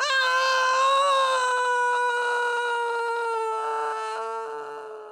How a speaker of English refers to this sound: Then he picked up the prince and threw him off the mountain. The prince screamed and fell down.